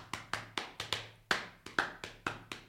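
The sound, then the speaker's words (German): Crisp tapping in two interlocking pulses, one tapping four beats while the other taps three, forming a four-against-three polyrhythm; the taps fall unevenly and sound louder where both hands strike together. No voices. “Ja, das ist nämlich, das ist ein Polyrhythmus. Einmal klopfe ich jetzt mit vier Viertel, einmal drei Viertel.”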